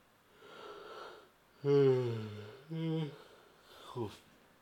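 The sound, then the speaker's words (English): A pet named Buddha lets out a drawn-out, whiny yawn that slides downward in pitch, then a shorter squeaky follow-up, ending with a quick snorting breath, over a soft breathy background. “Oh, he's yawning.”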